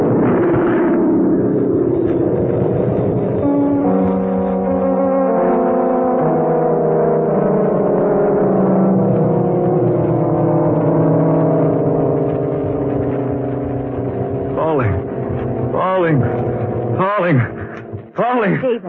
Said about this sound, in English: What's that noise? The New York plane. What's she so low for? I don't know. She's too low. What's wrong with her? Good Lord. She's on fire. On fire? Yes. A mass of flames.